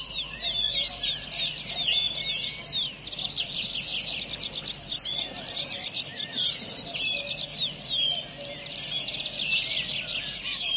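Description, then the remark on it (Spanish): A dense chorus of birds chirps and trills continuously in a young native forest of beech, ash and maple saplings growing among conifers in the Czech Republic, with many overlapping high calls and a soft, steady background hum. “El naciente bosque nativo es también más alegre, porque su variedad atrae a los pájaros.”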